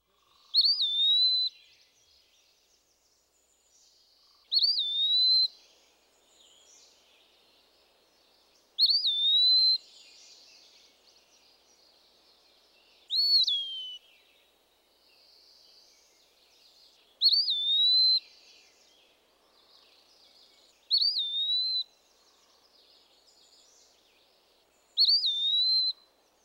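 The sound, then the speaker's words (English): An Eastern Wood Pewee sings clear, slurred whistled phrases, repeated seven times at steady intervals of about four seconds, alone with no other sounds. “As with many other woodland birds, the low visual profile of the Eastern Wood Pewee makes its song an especially useful one to know. Here it is again.”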